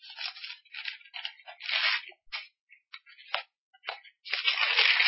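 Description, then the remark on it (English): Thin paper pages being turned and rustled while looking up Colossians 3, a series of crisp, irregular crinkling swishes with brief pauses, ending in a longer rustle. “Hard to turn the pages of thin paper.”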